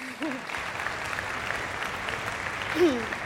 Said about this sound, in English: But I'd like to also thank the Cornell faculty for their sectional rehearsals. For sure, we should clap for them, right?